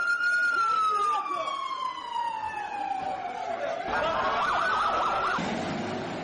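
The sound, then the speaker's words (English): Ambulance sirens in Gaza at night, after explosions, wail loudly and continuously, one long tone gliding slowly downward before the sound shifts into a faster, warbling yelp over a rumbling background. “Now I hear the ambulances running.”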